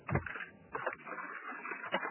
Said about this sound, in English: Is anyone else hearing that weird noise? Yeah, it sounds like a keyboard. Yeah, I'm sitting in my car in the rain. Oh, that's what it is. Oh, the rain.